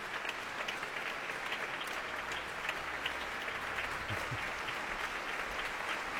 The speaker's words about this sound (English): Comes to the front of the stage, he takes his applause.